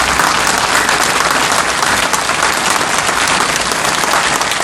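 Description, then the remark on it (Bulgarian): A crowd applauds steadily and loudly at a memorial gathering in Shumen, Bulgaria, honouring the actor Todor Kolev with flowers, a minute of silence and applause; many hands clap together in a dense, continuous wash of sound with no voices standing out. “Събралите се показаха уважението си към актьора с цветя, минута мълчание и аплодисменти.”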